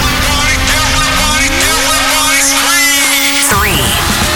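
A loud, dense rocket engine roar at main engine start during a launch countdown, with a steady hum and a rising whistling sweep that climbs sharply in pitch, then cuts to a descending whoosh near the end.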